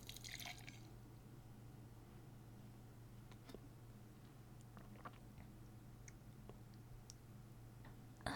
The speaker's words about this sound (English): Let me pour a bit for myself.